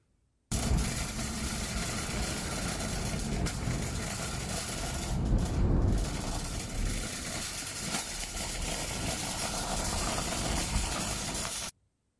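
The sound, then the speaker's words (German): A shopping cart pushed across a street, recorded on a mobile phone, rolls steadily over pavement, its wheels giving off a continuous rough rattling rumble for about eleven seconds, briefly louder midway, with no voices. “Das ist ein Einkaufswagen, den du über die Straße schiebst.”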